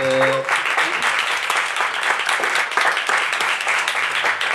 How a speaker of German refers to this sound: Dafür möchte ich mal kurz einen Applaus.